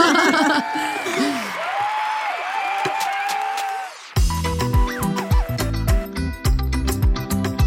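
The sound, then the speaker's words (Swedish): A burst of canned applause with whoops and cheers lasts about four seconds, then breaks abruptly into loud, bass-heavy music with a steady beat. “Tom, lägg in applåder.”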